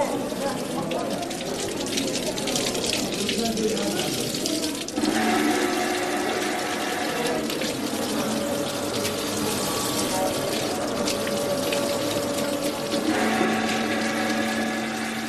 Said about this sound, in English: In the corner of the room, there is a man selling plastic bottles, and people are taking them to the holy spring and filling them up with some of the sacred water.